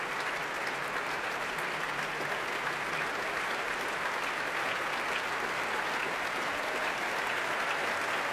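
concert audience applause

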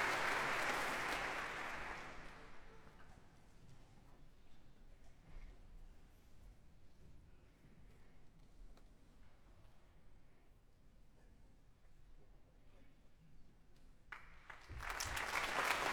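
concert hall audience applause

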